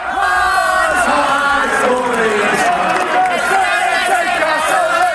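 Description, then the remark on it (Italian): A large crowd of Hearts football fans in Edinburgh cheers and shouts continuously, greeting and thanking their players on their return from Glasgow, a loud, dense roar of many voices with overlapping calls and chants rising and falling throughout. “Al rientro da Glasgow, i tifosi degli Hearts hanno comunque voluto salutare e ringraziare i loro beniamini.”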